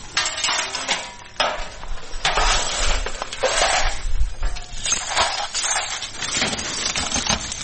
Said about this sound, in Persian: اینجا خانواده های آسیب دیده در رویداد روز گذشته شهر کابل مصرف جمع‌آوری شکسته های شیشه و وسایل خانه هایشان هستند که به اثر شدت انفجارها از بین رفتند.